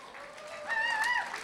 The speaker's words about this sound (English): Listen. Now you're clapping, but think about this.